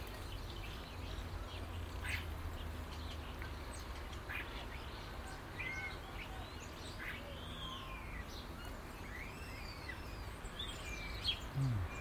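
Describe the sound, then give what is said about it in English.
Bird song fills the scene: many overlapping chirps and rising and falling whistled sweeps, some quacking-like calls among them, all over a steady low rumble with no one talking. “I suppose the sad thing about having the bird song is not having the visuals to go with it, but hey, let's not be greedy.”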